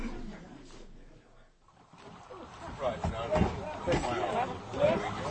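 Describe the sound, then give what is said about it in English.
A small river steamer departs on a journey into Nubia, with a low engine churn and lapping water that swell after a brief lull, while voices murmur throughout. “But the steamer is much smaller than the boats on the Lower Nile.”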